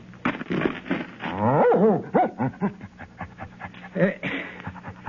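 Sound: dog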